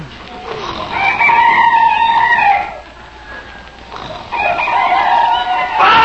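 Hens in a hen house squawk and cackle loudly in a noisy burst, fading briefly before another agitated round of frantic clucking rises up, chaotic with no talking.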